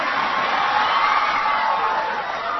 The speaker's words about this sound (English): He said women are not an interest group. Women shouldn't be treated this way, he told the cheering crowd.